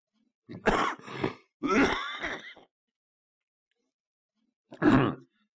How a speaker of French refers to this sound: Ce matin, je tousse beaucoup parce que j'ai arrêté de fumer.